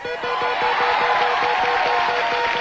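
A game show audience boos a contestant in a loud, continuous, dense roar that lasts the whole stretch, with a rapid, steady ticking of clicks running underneath.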